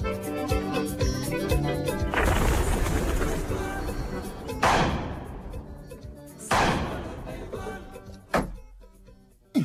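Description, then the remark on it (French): Soft, low pigeon cooing at first, then a series of heavy thuds and slams, several booming impacts spaced a couple of seconds apart, each ringing out before the next. “Le pigeon est tué.”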